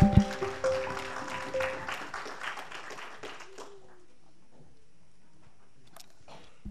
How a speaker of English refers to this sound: One more time, if you love the Lord, just give him a hand clap of praise.